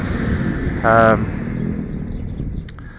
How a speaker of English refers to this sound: There's a tractor, muck spreading today.